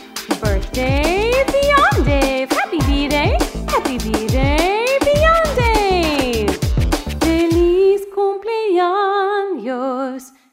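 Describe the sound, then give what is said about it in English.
A voice imitates a dog's howl with a run of quick yelping calls, then one long, wavering, drawn-out howl near the end. It is loud, with no other sounds. “My dog says, ah-woo!”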